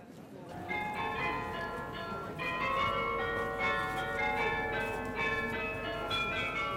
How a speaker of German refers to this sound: Wenn man dieses Glockenspiel hört, steht man im Herzen von München auf dem Marienplatz. Der Marienplatz ist der Mittelpunkt von München.